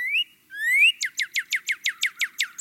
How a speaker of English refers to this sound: Planting trees where people live can bring in the birds, too. Bird song has been shown to be calming. So it's not just seeing birds, it's hearing them.